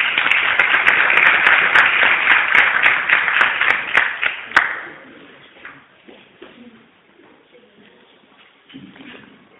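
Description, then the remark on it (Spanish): An audience breaks into loud, dense applause for about four seconds for a woman who is about to read from a book, then the clapping tapers off, leaving quiet shuffling and faint murmured voices. “un aplauso fuerte para ella.”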